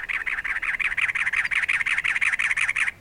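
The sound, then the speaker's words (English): A cactus wren calls from atop a barrel cactus in the desert with a rapid, harsh chugging series of raspy notes, about five per second, loud, sustained steadily for several seconds with no voices. “Now, a cactus wren announces itself atop a barrel cactus.”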